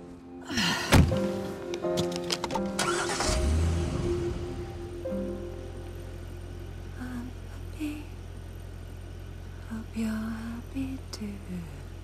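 A car door shuts with a solid thunk, followed by a few rattling bumps, then the engine turns over and settles into a low, steady idle that hums through the rest.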